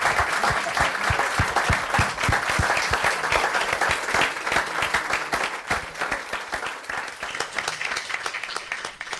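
An audience breaks into sustained applause, a dense crackle of many hands clapping steadily at full loudness before it thins out and fades toward the end.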